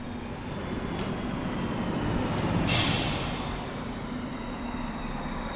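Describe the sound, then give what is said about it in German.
A train arriving rumbles steadily, with a couple of faint metallic clicks and one sharp hiss of air brakes bursting out midway before fading back into the low, continuous drone. “Ich muss mich beeilen, sonst verpasse ich den Zug.”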